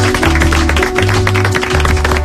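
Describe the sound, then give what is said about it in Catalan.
Steady, dense clapping from an audience fills the whole stretch, loud, with a low musical hum or backing tones running underneath. No one speaks. “Un aplaudiment.”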